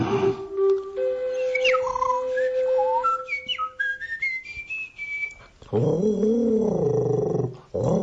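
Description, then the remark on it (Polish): Whistled imitation of tit birdsong: clear notes in short phrases climbing step by step in pitch, followed by a louder wavering, warbling call near the end. “Zgadnij, co to było. Sikorka? Tak, sikorka.”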